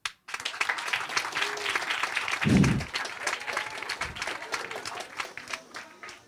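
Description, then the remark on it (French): An audience bursts into sustained applause, voting on a question by clapping: dense rapid clapping that holds steady for several seconds, with a couple of low thumps and scattered cheers mixed in. “Ok, deuxième question au public. Par applaudissement.”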